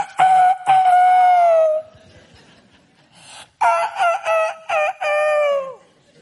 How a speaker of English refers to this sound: But from now on, when that rooster crows, I want you to learn how to answer him back. Hey, Mr. Rooster. You can crow if you want to.